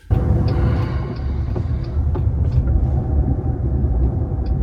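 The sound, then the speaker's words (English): A steady, loud low rumble fills the cabin of a moving car as it drives and picks up speed, with road noise droning throughout and no voices. “Now we do this thing where it speeds up really fast.”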